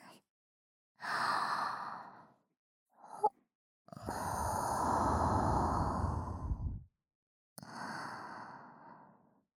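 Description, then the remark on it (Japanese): Soft breaths blown into the ear: three long, airy exhales separated by silences, with a brief puff between the first two and the middle one strongest and lowest-toned. No talking. “私の吐息が奥の奥までしっかり入るように。”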